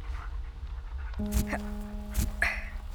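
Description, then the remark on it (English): A female dog pants in short, breathy bursts, with a steady thin whine running underneath for much of the time. No one talks. “I knew you were actually a dog.”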